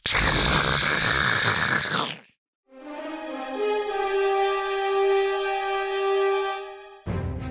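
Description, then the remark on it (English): A huge mechanical centipede with bladed arms, the Shardgun Eviscerator X3 Bladed Combat Titan, rising from a ziggurat, lets out a sparking roar: a harsh, noisy grinding blast, a brief pause, then a long, loud metallic screech with a steady buzzing pitch, before the grinding noise bursts back in. “And it lets out this grinding, sparking roar.”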